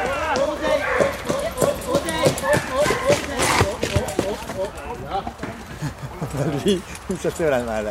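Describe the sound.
A horse trying to escape clatters and stamps its hooves in quick, uneven bursts, restless and agitated, with people's voices talking over and around the commotion as they calm it.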